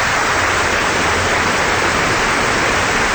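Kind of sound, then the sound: crowd, applause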